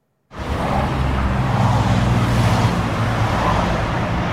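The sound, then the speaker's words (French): Continuous roar of motorway traffic at a motorway rest area, with steady engine rumble and tyre noise filling the scene at a loud, even level. No voices are heard. “mais on s'arrête un peu avant d'arriver sur une aire de repos où étaient organisés mardi et mercredi des concerts gratuits pour les automobilistes de passage.”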